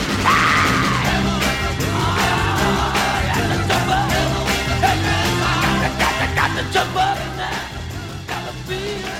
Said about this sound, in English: Hard-driving Motor City rock and roll sound